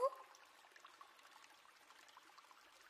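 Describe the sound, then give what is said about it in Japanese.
Carbonated water pours with a brief splash, then settles into a steady, crackling fizz of tiny bubbles popping, quiet, continuing for several seconds with no voices. “ドバドバー、シュワシュワシュワー。”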